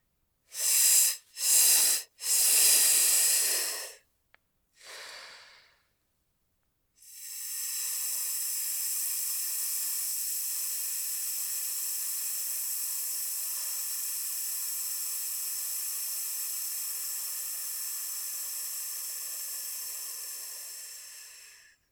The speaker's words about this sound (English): Now, one more time, but on your exhale, try to very slowly and evenly release your breath on a hiss, like this.